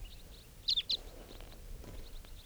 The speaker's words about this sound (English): The birds are flying around. They may be coming back here.